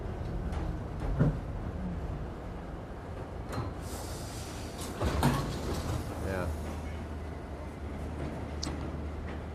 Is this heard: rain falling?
no